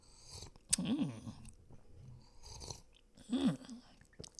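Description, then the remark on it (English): Quiet sipping of tea: a lip click and a soft slurp followed by a throaty swallow, repeated in two bouts separated by a hushed pause, with no talking. “Take a sip of my tea.”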